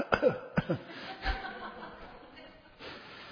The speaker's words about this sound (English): Opening the door of your heart to your cough. Cough.